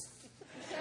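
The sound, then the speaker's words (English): A speaker giving a sermon imitates a cat's hiss with one breathy, sharp exhale that swells louder toward the end. No words are spoken. “You can tell. They look at you like,”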